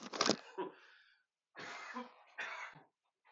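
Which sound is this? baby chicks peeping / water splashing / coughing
coughing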